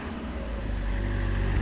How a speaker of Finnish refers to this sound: Ollaan muuten nyt tässä, katsotaan, ettei tuo auto aja päälle. Siis tässä on... Tullaan Sibeliuspuistoon.